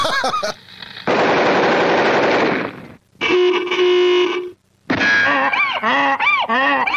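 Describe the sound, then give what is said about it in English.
A loud, rapid machine-gun rattle played on a guitar bursts for about two seconds, followed by a sustained honk and a string of squawking, swooping cartoonish calls, with no talking. “The inevitability of the what's going to happen with the sound is when you hit that guitar, it's going to make the sound of a machine gun.”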